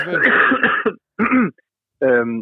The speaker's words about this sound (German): Ja, warte mal ganz kurz eine Sekunde, ich muss mal ganz kurz husten, ich habe irgendwie so einen Frosch im Hals.